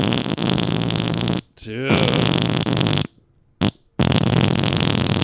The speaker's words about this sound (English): Okay, one last fart sound.